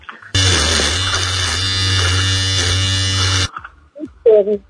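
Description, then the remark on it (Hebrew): An electric hair clipper, a sound taken from the Machsanei Hashmal website, buzzes loudly and steadily for about three seconds, a harsh motor drone, then cuts off abruptly, followed by a brief voice. “לא, זה מכונת תספורת.”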